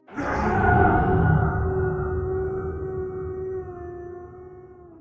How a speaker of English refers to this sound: It released a high-pitched, snarling howl that almost turned my hair white, damn near causing my legs to give out beneath me again.